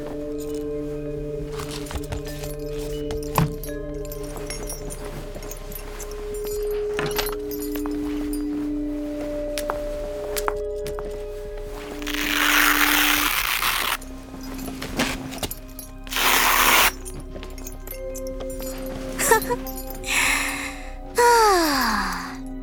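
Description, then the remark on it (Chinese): Rummaging and clattering handling sounds as someone searches for adhesive tape, followed by several short, loud bursts like adhesive tape being pulled from the roll, over a faint, steady background drone. “既然不想说话，那就都别说话了，我找找胶带。”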